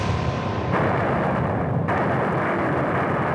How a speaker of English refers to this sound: At that point, the guardsman on my right fired his weapon. Within, again, milliseconds of that single report, the volley itself began.